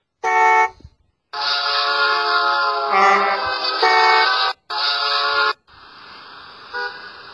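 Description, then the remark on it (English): Loud car horns blare in a series of long honks with short gaps, one after another, then fade to a softer held horn tone over steady traffic noise. “Are you tired of wasting time in traffic?”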